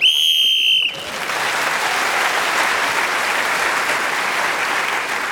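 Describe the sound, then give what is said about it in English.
A shrill whistle blast sounds for about a second to end a round of a game, loud and steady, then cuts off as audience applause breaks out and carries on steadily to the end. “Speaking as a whistle went, another point is moved forward.”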